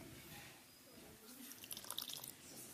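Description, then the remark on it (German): Lemon juice is poured in a short, quiet trickle, a quick run of small splashes and drips lasting about a second, against faint background noise with no talking. “So, jetzt brauchen wir Zitronensaft. Den haben wir hier drin.”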